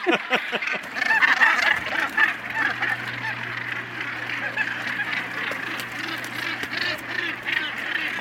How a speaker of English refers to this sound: There's two birds here in the corner, young gannets on the corner here. For about the last 5-6 years, they have tried to nest on this corner, three of them.